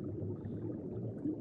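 A seal gives a low, rough, drawn-out growling call that holds steady and fairly loud for a second or so, with no one talking over it.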